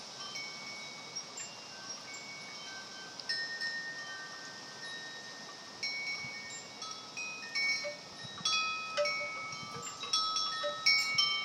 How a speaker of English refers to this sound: We have two wooden wind chimes, a bigger one that you're hearing, and one that's a bug that's really little.